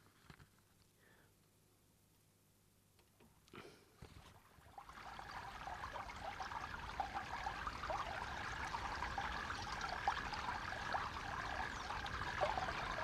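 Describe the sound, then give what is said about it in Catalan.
The cold, clear water of the Bastarany cascades steadily at a waterfall in a mountain stream, leaping amid white foam, a dense, continuous rushing that swells in after a few quiet seconds and stays loud to the end. “Sí, tanquem els ulls, ens relaxem sentint aquesta aigua que ens ha faltat aquests dies enrere”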